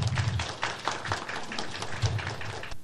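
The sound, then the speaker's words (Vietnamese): An audience at a Buddhist dharma assembly breaks into steady applause to thank the Dharma master, a dense wash of many hands clapping together at an even level for a few seconds before cutting off abruptly. “Một lần nữa, đại diện toàn thể đạo tràng xin thành kính tri ân pháp sư, xin đạo tràng cho một tràng pháo tay.”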